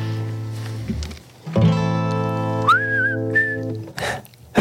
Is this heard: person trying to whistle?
yes